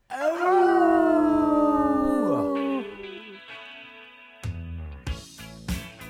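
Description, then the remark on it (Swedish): Several long, loud wailing howls like dogs or wolves overlap for about three seconds, sliding downward in pitch, then fade as music begins. “Det ylar vi på.”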